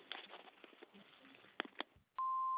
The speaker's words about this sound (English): Thank you for your call. Please leave a message at the sound of the beep.